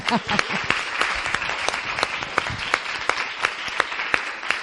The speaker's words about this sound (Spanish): Vamos, un aplauso yo para vosotros, o sea...